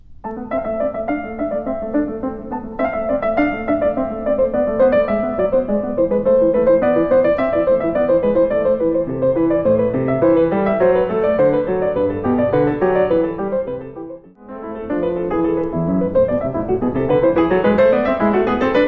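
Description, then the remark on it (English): A solo piano plays the two bourrées and gigue that close Bach's English Suite No. 2: brisk, baroque-style dance music with busy interweaving lines, steady in volume, pausing briefly near the end before a new lively section begins. “We're going to hear the last two sections of the English Suite, number two. A couple of bourrées and a gigue, I believe, mm-hmm.”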